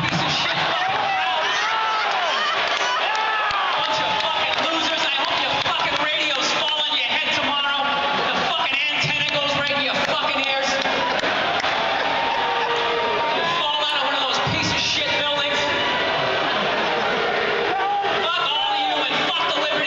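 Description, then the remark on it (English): A large crowd boos a performer on stage loudly and continuously, a dense wash of overlapping jeering voices filling the whole stretch, with scattered shouts and rowdy calls rising out of the din. “Fucking standing backstage for 3 hours to get booed by this GED fucking stupid.”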